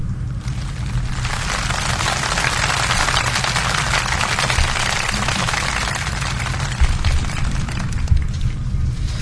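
An audience on the programme Emprende con Equipo applauds the girls: many hands clap steadily for about nine seconds, a dense crackling wash that stays loud throughout with no voices over it, swelling slightly in the middle and thinning toward the end.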